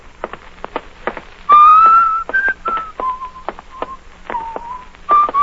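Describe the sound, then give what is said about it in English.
A person walking along a hot street to the train station whistles a slow tune, holding bright sustained notes that rise and fall. A steady rhythm of sharp clicks, like footsteps on pavement, runs underneath. “Stop whistling that. It gets on my nerves.”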